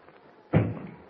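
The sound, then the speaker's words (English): A single heavy knock thuds against a wooden door, fairly loud, then fades into quiet with no one speaking. “Someone's at the door.”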